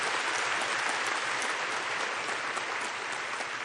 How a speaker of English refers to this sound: Hey, just clap your hands for being able to come to church and hear Jesus. Enjoy it.